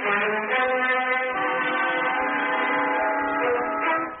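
A loud, steady train horn or whistle drones without a break for about four seconds at a train station, with faint rail rumble underneath and no voices.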